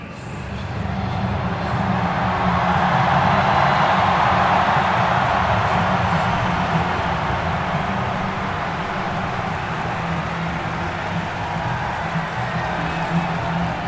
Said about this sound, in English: As you can hear, the atmosphere is ramping up and the players are about to come out. And I'm excited to hear this noise from this massive crowd.